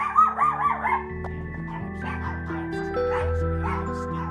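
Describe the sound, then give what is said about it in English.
Several dogs in a home bark and yip in quick, excited bursts, loudest at the start, with whiny yelps mixed in over a steady low hum in the background. “Now, we have some dogs. That they won't bite you, but they might lick you to death.”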